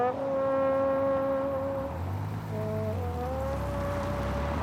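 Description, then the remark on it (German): A man plays a trombone on the broad Lindenallee, formerly Leninallee, on a hazy, rainy day: a few long, sustained notes, loud and brassy, sliding to a lower pitch midway before settling on a new held tone. No one speaks. “Bis auf den Mann, der auf seiner Posaune spielt, ist hier niemand unterwegs.”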